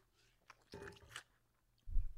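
Crunching of small popcorn ice cubes from a home ice maker being chewed, a brittle burst of crackles followed by a deeper, heavier crunch near the end, with no talking.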